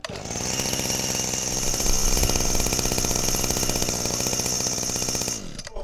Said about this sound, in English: Just like to demonstrate the 25cc petrol two-stroke engine for you. Just like to start that up now for you.